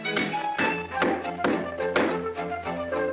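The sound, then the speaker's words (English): A hammer strikes a nail into a loose board on the stairs again and again, about seven sharp, ringing blows at a steady, unhurried pace, fairly loud with no talking. “took it into his head to hammer a nail into the loose board on the stairs.”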